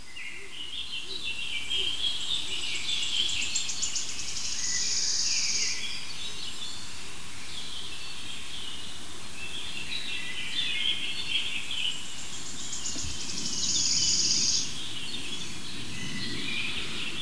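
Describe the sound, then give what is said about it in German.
A bird calls outdoors in two bright, high-pitched bursts of rapid chirping several seconds apart, set against a steady low background hum with no voices. “Das ist der Vogel, der sich so krass bewegt.”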